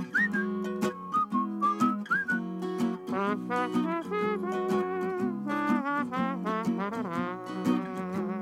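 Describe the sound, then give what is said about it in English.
Someone whistles a bouncy, jaunty melody over steady instrumental backing, the bright notes rising and falling in quick phrases, ending with a little trombone-like sound, clear, with no talking. “I love the whistling, that little trombone sound that you get at the end there.”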